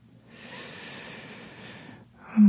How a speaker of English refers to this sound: Listen to my heartbeat, hear my breathing.